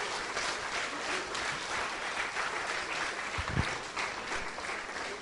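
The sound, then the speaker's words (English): A large audience claps and applauds continuously as a clap offering to the Lord, a dense, steady wash of many hands with no one speaking over it, with a couple of low thumps near the end. “Give to the Lord a mighty clap offering.”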